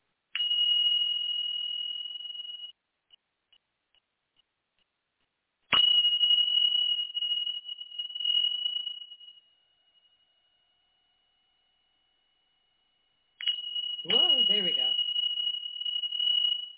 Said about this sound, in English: One, if you have AirPods on or whatever, earbuds, whatever, clear your ears because I'm going to just clear the room with my Tibetan bells. So we're just going to clear energy real quick.